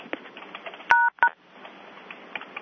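Two telephone keypad tones, a longer beep followed by a short one, pressed for pound and one to unmute on a conference call during a committee vote, sounding over a faint, hissy phone-line background with no talking.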